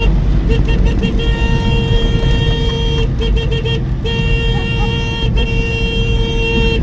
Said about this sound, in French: Le klaxon authentique de deux chevaux. C'est pas un klaxon maquillé.